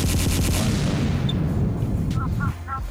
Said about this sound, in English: give me the gunshot, man.